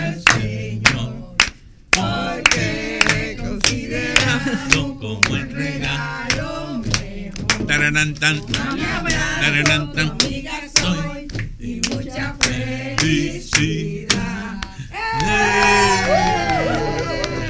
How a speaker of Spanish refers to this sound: Aplausos atronadores.